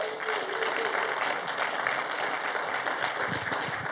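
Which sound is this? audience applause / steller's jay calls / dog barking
audience applause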